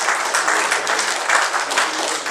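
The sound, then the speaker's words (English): A child claps rapidly and continuously throughout, a dense crackling patter at fairly even loudness with no voices or pauses. “My child's clapping.”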